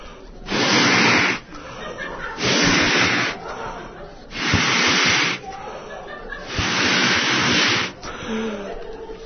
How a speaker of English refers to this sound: I have filled this balloon with hot air. It looks much bigger than it did before, doesn't it? Maybe 10, 100 times as big as it was when we started out.